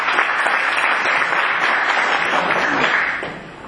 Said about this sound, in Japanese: 拍手させていただきました。